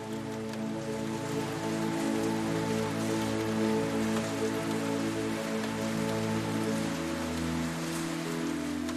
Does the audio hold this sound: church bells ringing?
no